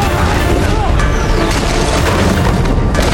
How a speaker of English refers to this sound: He slammed through part of a roof, which shatters while he's still clinging to the broom.